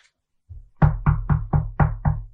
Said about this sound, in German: In Wahrheit sind es nur Kräfte, obwohl ich darauf klopfen kann.